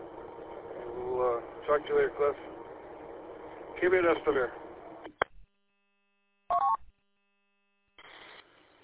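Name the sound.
telephone keypad dialing tones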